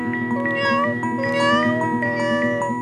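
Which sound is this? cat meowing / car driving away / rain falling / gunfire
cat meowing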